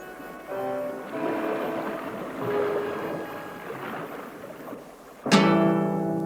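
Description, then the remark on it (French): A steamship under way at full steam on the dark waves of the Atlantic at 8 in the evening, after leaving down the Hudson River, with a steady churning rumble and tonal droning, then a sudden loud horn-like blast near the end that holds strongly. “Et à 8 heures du soir, nous fendons à toute vapeur les flots sombres de l'Atlantique.”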